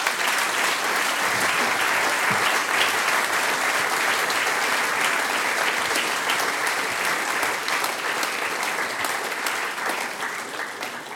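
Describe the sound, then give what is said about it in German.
Sustained audience applause for a performer on a stage, a dense, steady wash of many hands clapping at full strength for about eleven seconds, easing slightly toward the end, with no voices over it. “Danke dir vielmals, das ist dein Applaus,”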